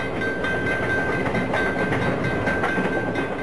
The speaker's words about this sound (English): Graphic test footage of a staged crash demonstrates the deadly results of a train colliding with a bus.